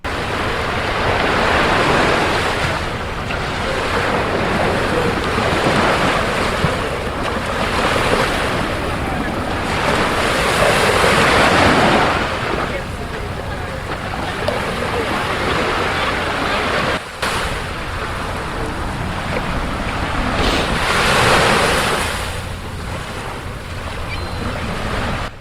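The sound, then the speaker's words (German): Ocean waves break and wash onto Brighton Beach in New York in a steady, rolling roar, surging loudly every few seconds, with wind buffeting the microphone and no voices. “Also viel Spaß bei unserer kleinen Reise an den Strand von Brighton Beach.”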